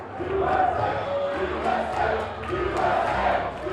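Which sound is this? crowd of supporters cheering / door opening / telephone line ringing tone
crowd of supporters cheering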